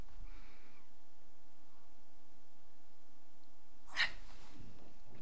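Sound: loud exaggerated yawn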